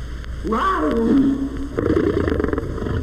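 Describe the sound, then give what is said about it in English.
A young Maasai lion cub named Octavius roars: a wavering, tonal yowl that rises then sags, followed by a rougher, raspy growling stretch, fairly loud and with no talking over it. “Octavius, the Maasai lion cub, practices his meanest roars.”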